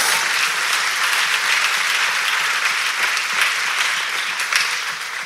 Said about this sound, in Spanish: Si usted está entendiendo lo que estamos leyendo, denle un mejor aplauso al Señor.